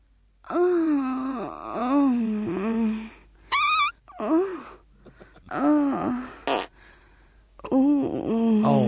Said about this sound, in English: However, I've just discovered we have a whole disc full of great screams. I've never heard these.